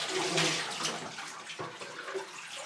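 water splashing

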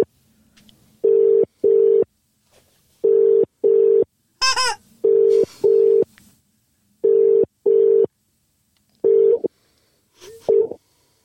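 phone ringing tone

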